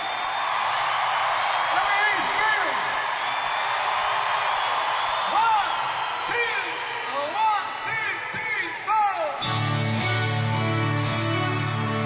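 crowd, audience screaming and cheering

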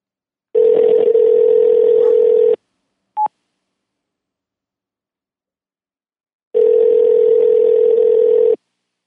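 signal or alarm, phone call ringing tone

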